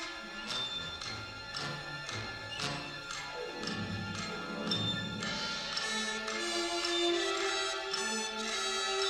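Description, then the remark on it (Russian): A large wall clock in a castle ticks near midnight in a steady, even rhythm, each tick crisp and fairly loud, layered over soft sustained music that swells and grows fuller toward the end. “Только мы, большие стенные часы, никогда не спим, не отдыхаем, не останавливаемся, потому что мы – время.”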